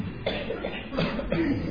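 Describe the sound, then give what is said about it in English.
Many audience members at a meditation talk cough in scattered, overlapping bursts, with a murmur of background noise and no speech. “So many people coughing, huh?”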